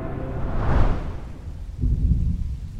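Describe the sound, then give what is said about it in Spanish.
Steady rain falls outdoors while deep, rumbling thunder swells twice, fairly loud, with no voices present. “La lluvia continuaba afuera mientras yo me sumergía en un absoluto silencio.”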